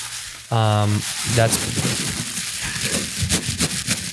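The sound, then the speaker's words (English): Tissue paper crinkles and rustles in a steady run of irregular, papery crackles as a gift is unwrapped, starting just after a short, loud vocal sound at the beginning. “That's the tissue paper.”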